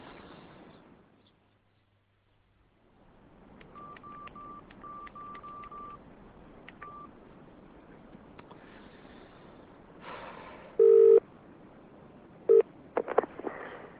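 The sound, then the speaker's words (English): A telephone is dialed: a run of short, clear keypad tones beeping in quick succession over low line hiss, followed by a few louder electronic tones and clicks as the line connects and an answering machine picks up. “Reached the answer phone”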